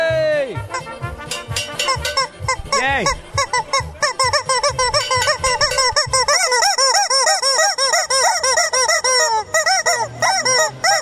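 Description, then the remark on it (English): A loud, dense chorus of chickens clucking and squawking, many overlapping calls in a rapid, continuous stream for the whole stretch. “I don't want to hear a chicken anymore.”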